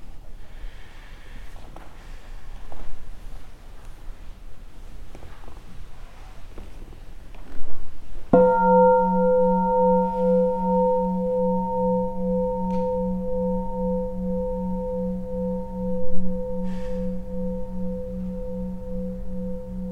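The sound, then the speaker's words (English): A single bell is struck once after a few seconds of quiet, then rings on with a steady, shimmering hum of layered tones that slowly pulse as they fade. “Maybe we could hear one sound of the bell, and then I'd like to offer one other poem from Mark Nepo.”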